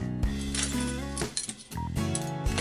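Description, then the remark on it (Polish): Dishes clink and clatter, a quick irregular series of ringing knocks of crockery and glass over about two seconds, with no one speaking. “Zuzia, włóż naczynia do zmywarki”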